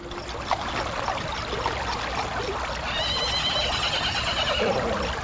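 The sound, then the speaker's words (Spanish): A horse lets out a shrill, drawn-out whinny partway through as it stops short, rears up on its hind legs and refuses to go on, a few metres from a bridge on a mountain path. The whinny rises above a steady rush of flowing water that fills the background from start to finish. “Y cuando estaba a pocos metros del puente, su caballo se frenó levantándose en las patas traseras y no quiso avanzar.”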